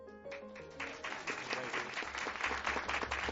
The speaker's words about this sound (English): Love the unrehearsed applause. Thank you very much.